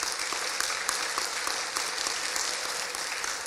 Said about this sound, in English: So if you guys want to give a round of applause for them.